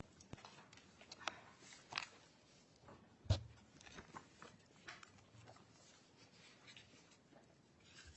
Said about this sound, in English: Let me just shuffle my papers here and get things out of the way.